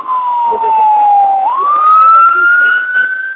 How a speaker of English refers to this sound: There's a siren here. You need to mute.